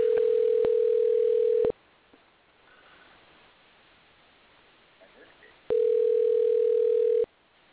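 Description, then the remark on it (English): A steady, loud ringback tone sounds twice, each burst lasting roughly a second and a half, separated by a long quiet gap of faint line hiss, as an outgoing phone call rings a guest during a live on-air show. “Let's see if we can get Chris on the road, on the phone now.”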